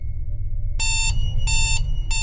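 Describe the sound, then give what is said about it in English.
An alarm clock blares in a room in loud, repeating electronic bursts, three pulses with short gaps between them, echoing down the hall, over a low rumbling background hum. “The alarm sounds off loudly in my room, the noise echoing down the hall towards me.”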